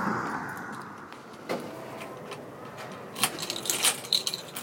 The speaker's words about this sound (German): Was wir hier hören, ist der Schlüssel der Stadtbibliothek Bremerhaven. Wir gehen durch den Haupteingang rein